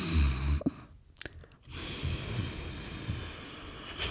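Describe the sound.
Someone breathes slowly through a constricted throat, tightening the vocal cords to imitate the sound of the sea, making a hoarse, rushing hiss like ocean surf, with a brief pause before a long steady breath continues.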